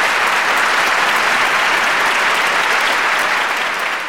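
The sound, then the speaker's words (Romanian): A class of schoolchildren in a school classroom claps their hands together in sustained, steady applause, a dense patter of many overlapping claps that stays loud throughout without any talking. “Deodată, toți au început să bată din palme.”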